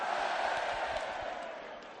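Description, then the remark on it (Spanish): A dense, steady roar of a large crowd cheering and shouting together in a town square, loud and sustained throughout, with no single voice standing out. “Bueno, la gente totalmente está como loca. Mira cómo suena la plaza.”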